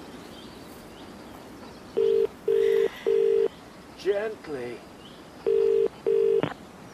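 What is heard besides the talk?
telephone number being dialed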